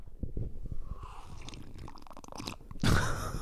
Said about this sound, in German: Ja, ich muss mal kurz einen Schluck trinken. Trink mal noch einen Schluck von deinem geilen Tee.